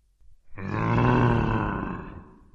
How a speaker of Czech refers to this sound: A tu Tonkovi došlo, že na něj mluví medvěd. Stál, hrozivě se díval a vrčel.